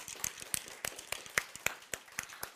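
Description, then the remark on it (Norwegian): Scattered hand claps from a small audience applauding an illustrator, crisp and irregular, fairly quiet, lasting a couple of seconds with no voices over them. “Hun sitter der, og jeg synes vi skal gi en stor applaus.”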